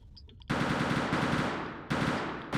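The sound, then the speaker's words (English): Loud bursts of rapid automatic gunfire start abruptly and rattle on continuously, with fresh volleys kicking in near the end; harsh, with no voices. “In the middle of the night, the hostages heard gunfire outside the theater.”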